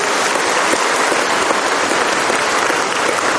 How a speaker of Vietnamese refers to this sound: Vậy mà anh chị em đã đến và đã cầu nguyện và đã sốt sáng, và bây giờ chúng ta cảm ơn Chúa, cảm ơn nhau một tràng pháo tay thật lớn thưa anh chị em.